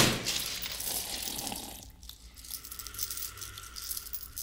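Broken glass shards clink and scrape as they are moved and cleared out, a dense close-up jingle of glass pieces that quiets briefly before more scattered tinkling.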